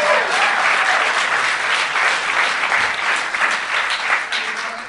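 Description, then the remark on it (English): A large audience at the Vancouver Comedy Festival claps steadily and loudly throughout, a dense wash of applause that holds its strength for several seconds before easing slightly at the end. “Still to come here at the Vancouver Comedy Festival, hold your applause till the end.”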